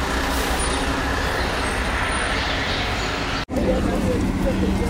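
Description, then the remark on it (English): Loud rumble of large trucks moving along a narrow street, with steady engine roar and road noise filling the whole stretch and a brief break partway through. “This is a narrow street with large trucks on it.”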